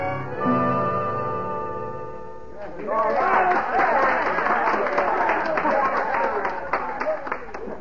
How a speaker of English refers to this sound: what's that crowd down the street? Oh, it's a medicine show, Hoppy. Down on that vacant corner across from O'Hara's livery stable.